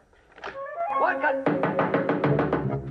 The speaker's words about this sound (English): The knocking is coming from the file store. The chief turns the combination dial on the door.